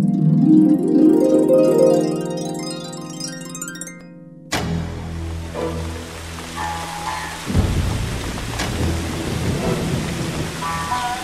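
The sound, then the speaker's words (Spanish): A tinkling melody plays briefly, then cuts to heavy rain pouring down steadily, a dense hiss with a low rumble of thunder rolling in partway through. “no debíamos viajar ahora. Mucho está lloviendo”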